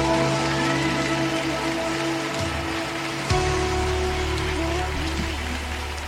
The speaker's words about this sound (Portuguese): Aleluia, glórias a ti, Jesus. Glórias a ti, aplauda bem forte o Senhor.